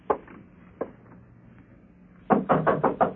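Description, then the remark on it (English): Two spaced knocks on a door, a pause, then a quick, louder burst of about seven raps. No voices. “Door's open. Come on in.”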